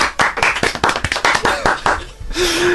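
Loud, rapid hand clapping in a quick, steady rhythm for a couple of seconds, then it stops and a brief sustained low tone follows.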